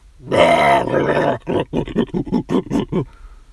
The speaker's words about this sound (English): Hey, those aren't dogs! They're gorillas!